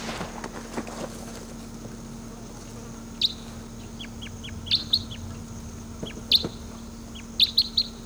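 wild bird calling

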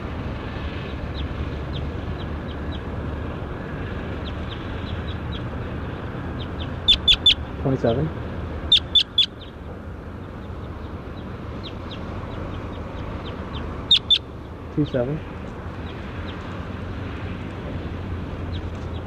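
bird calls

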